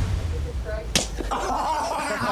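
A single sharp, loud slap to the head cracks out close by, sudden and brief, with faint muffled voices and background noise around it.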